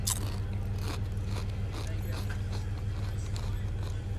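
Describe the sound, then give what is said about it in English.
Loud crunching of Doritos tortilla chips being chewed and eaten, with sharp crisp bites repeating roughly every half second over a steady low hum. “I hope you like the sound of me chewing on Doritos.”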